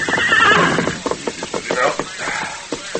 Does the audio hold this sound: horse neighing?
yes